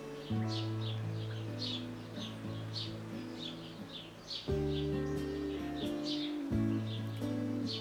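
Birds chirp and twitter in quick repeated bursts throughout, over a steady low humming drone of sustained tones that shifts pitch a few times.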